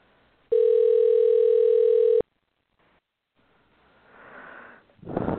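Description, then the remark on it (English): A loud, steady telephone dial tone hums for under two seconds as a person dials their phone line to call someone back in, then cuts off abruptly, followed by a brief silence and soft rustling, breathy noise. “Let's see if I can get him back in. 1 7 dial.”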